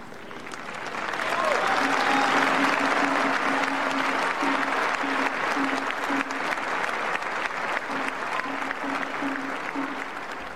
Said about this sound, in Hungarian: A mai napon is tapssal köszönik meg a Szent Atyának a tanítását és az ő áldását.